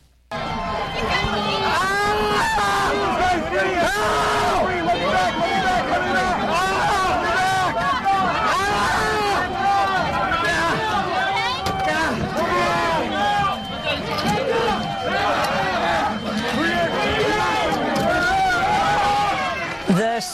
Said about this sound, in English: On January 6, 2021, … was nearly crushed to death. In this tape, you hear … as he's pinned against a door by the mob.